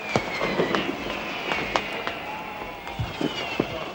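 Fireworks crack and pop in an irregular string of sharp bangs over a steady background murmur of a crowd, with a faint whistling tone drifting through the bursts, at the Brandenburg Gate in Berlin on the night of 2 to 3 October 1990, celebrating German reunification.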